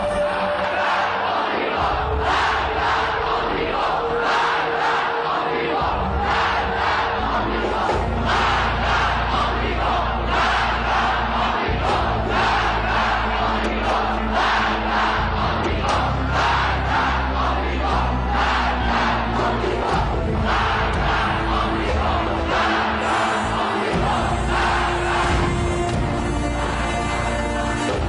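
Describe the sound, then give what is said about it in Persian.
A large crowd of school and university students at a demonstration on a university lawn chants slogans in unison, "Death to the Shah, death to America, hail Khomeini": loud rhythmic shouting that rises and falls in repeated bursts, with voices layered densely throughout. “همه شعار مرگ بر شاه، مرگ بر آمریکا، درود بر خمینی سر داد.”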